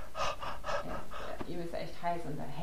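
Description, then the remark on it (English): A voice imitates a hot man's heavy panting: quick, breathy huffs in a steady rhythm, fairly loud, followed by a few voiced, gasping breaths. “He's hot, he's panting.”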